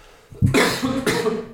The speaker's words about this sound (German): Ich muss kurz husten.